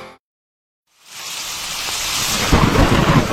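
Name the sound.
thunderstorm with heavy rain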